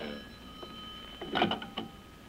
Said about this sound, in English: Wait till I answer the phone out in the hall here.